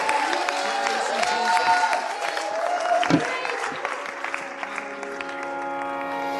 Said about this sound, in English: So we bless You, Lord. We praise Your holy name. Let's just have a great shout of praise to finish. Hallelujah.